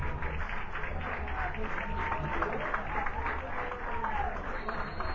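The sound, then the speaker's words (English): A crowd applauds the referee as he walks off the field, steadily for about five seconds, a dense wash of many hands clapping at once with a faint murmur of voices underneath, holding an even loudness throughout. “For a big round of applause for the referee as he walks off the field, Figueroa.”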